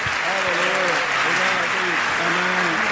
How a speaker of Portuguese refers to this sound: Uma salva de palmas ao Senhor. Aleluia.